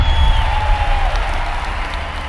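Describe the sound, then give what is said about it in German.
A large crowd cheers as someone steps out onto a balcony, a steady, dense roar that fills the whole moment, with a shrill whistle sliding downward over the noise. “Und in der großen Menschenmenge brandet Jubel auf.”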